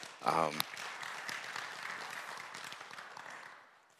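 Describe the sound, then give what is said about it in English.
An audience at a church service breaks into steady applause, a dense wash of many hands clapping that holds for a few seconds before tapering off. A brief voice is heard just as it begins. “And so I just want to say thank you and give you guys a round of applause for me on that one.”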